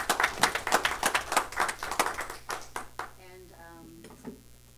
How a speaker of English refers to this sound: I'm sitting here and I just want to clap for your presentation because I think it was amazing. Thank you.